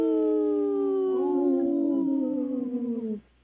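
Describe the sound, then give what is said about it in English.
A wolf pack howling: long, sustained tones from several overlapping voices, sliding slowly downward in pitch for about three seconds before cutting off abruptly. “That was a good pack, Howl, you guys.”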